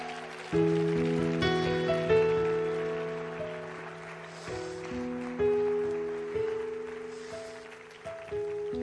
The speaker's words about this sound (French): Et que ceux qui disent Amen applaudissent.